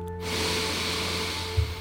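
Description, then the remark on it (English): A long, steady, deep inhale taken as breathing practice before a meditation, a breathy hiss that starts abruptly and holds evenly for well over a second, with a faint low hum running underneath and no talking. “Before we begin today's meditation, let's practice our breathing by taking in one big, deep, cathartic breath.”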